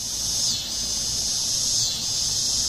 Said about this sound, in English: It's the mating call of dog day cicadas, loud enough to rise above the drone of air conditioners, and so persistent and widespread that people who hear can hardly miss it.